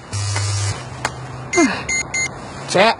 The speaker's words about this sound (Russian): Это что? А, это мои мелодийные смс-ки.